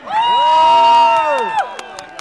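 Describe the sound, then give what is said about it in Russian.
A stadium crowd in Dzerzhinsk cheers with a loud, sustained whooping roar that swells, holds, then falls away after about a second and a half, followed by a few scattered claps and whistles. “Вот он, ревущий стадион Дзержинск.”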